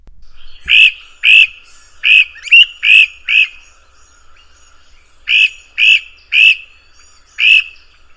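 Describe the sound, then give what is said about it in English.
A person imitates frog croaks: a series of short, sharp, loud croaks in two bursts, about six quick calls, a brief quiet pause, then four more, with no talking. “Even though he didn't have much of a voice, he was a wizard at imitating frogs.”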